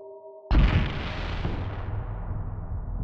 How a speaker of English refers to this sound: A bang that sounded more like an explosion erupted.